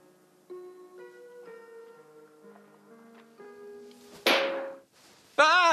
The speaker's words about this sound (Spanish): ¿Te digo que te echo de menos y me das una bofetada? Perdóname, por mucho que lo he intentado, no te despertabas, he tenido que hacerlo.